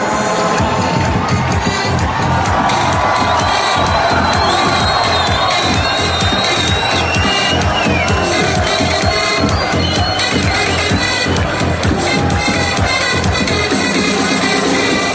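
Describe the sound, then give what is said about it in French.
A large crowd of protesters cheers, sings and dances at an improvised concert by a DJ playing from a balcony on Al-Nour Square in Tripoli, Lebanon; voices loud and continuous throughout, with rhythmic chanting of slogans for change and scattered shouts rising over the dense roar. “Il fait danser et chanter la foule des contestataires et reprend les mots d'ordre de changement.”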